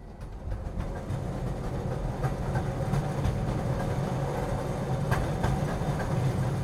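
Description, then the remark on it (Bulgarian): A metro train, ridden home late at night, rumbles steadily along the rails, a continuous low roar with faint rhythmic clicks and occasional metallic squeaks, heard from inside the carriage with no talking. “Късно е. Прибирам се с метрото.”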